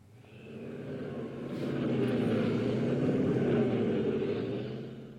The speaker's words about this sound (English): Spiral Jetty is indeed another work, and in fact, the piece that I think we're going to hear next is of Spiral Jetty, is a helicopter flying over the top of Spiral Jetty.